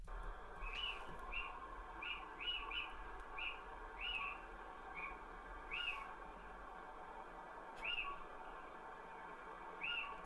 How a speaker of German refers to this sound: Willst du mal hören, den Kleinen? Doch ja, den Steinkauz höre ich mir gern an.